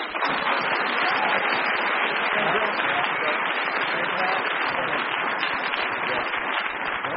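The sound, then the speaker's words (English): An audience applauds to show which team they thought won, a dense wash of many hands clapping at once with no pauses, holding a fairly even loudness for several seconds. “I'm going to ask the audience to indicate through their applause which team they thought won that one.”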